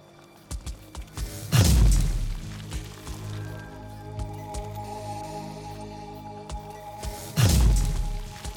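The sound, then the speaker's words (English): Two heavy, booming ground thumps land about six seconds apart, each with a deep rumbling tail, over a steady low mechanical hum and scattered small clicks, from a squad's thumper device nearby pounding the earth for resources. “Boss, there's a squad thumping for resources nearby.”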